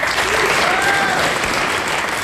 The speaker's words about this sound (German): Der Applaus kam erst ein wenig verhalten, wurde dann zwar schon noch lauter, aber erstmal mussten das viele im Saal einordnen.